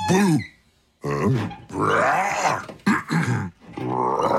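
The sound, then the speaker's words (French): A monster said to hide in closets at night growls and grunts in a series of loud, guttural bursts, with rough, strained tones rising and falling between short pauses, likely a human voice imitating the creature. “Ça, c'est le monstre qui se cache dans les garde-robes la nuit.”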